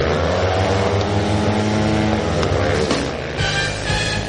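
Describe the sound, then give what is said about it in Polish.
Loud, continuous roar of speedway motorcycle engines revving up and down, a raspy drone with shifting pitch that fills the whole stretch without any voices. “To tyle, jeżeli chodzi o nasz dzisiejszy magazyn żużlowy, jeszcze zimowy, ale proszę, już z warkotem motocykli.”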